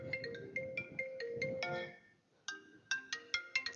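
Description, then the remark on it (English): A mobile phone ringtone plays a bright, tinkling electronic melody, loud, breaking off briefly before repeating in quick chiming notes over faint room noise. “Could I tell you, please turn off your phones.”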